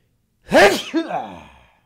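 sneeze

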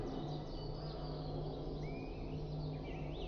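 small bird chirping

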